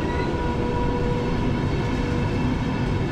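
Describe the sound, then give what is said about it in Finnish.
An intercity (IC) passenger train rumbles steadily past, a dense low roar with faint high tonal whine from the rails, loud and continuous with no voices. “No, annetaanpas tuon IC-junan tuossa nytten.”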